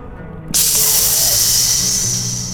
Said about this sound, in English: That'll be the sound of your eyeball steaming as red-hot iron enters it.